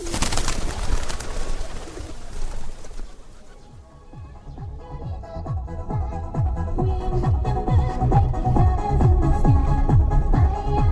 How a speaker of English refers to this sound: hands us seed to feed the pigeons, an exercise for good karma.